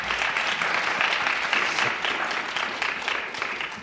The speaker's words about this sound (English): So let's go ahead and give them a round of applause anyway.